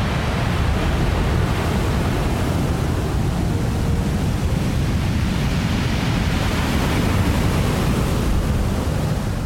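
Ocean waves on an empty beach with deep blue and green water wash in a steady, unbroken roar of surf, a dense rumbling hiss that stays loud and even throughout, with no voices or other sounds standing out.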